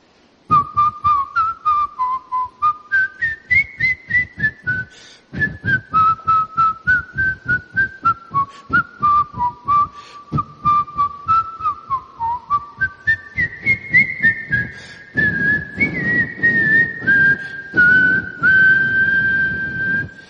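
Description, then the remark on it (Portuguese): A man walking along the street whistles a clear, wandering melody for about twenty seconds, with a steady rhythmic beat pulsing underneath throughout and no one talking. “Ele vinha pela rua assobiando.”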